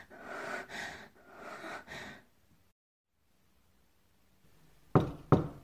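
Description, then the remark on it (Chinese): Two sharp, fairly loud knocks on a door close together near the end, after a pause of quiet that follows several heavy, breathy sighs or gasps. “哦，来了， 儿子，快去开门。”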